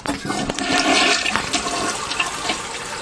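A toilet flushes, a loud continuous rush of swirling water that holds steady for the whole few seconds with no talking over it.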